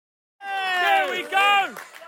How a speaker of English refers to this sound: But, again, we've got the 450-plus in attendance cheering them on.